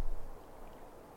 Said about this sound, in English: If you listen carefully, you can hear the soothing sounds of waves lapping the shore, creating a rhythm that lulls you into a state of calm.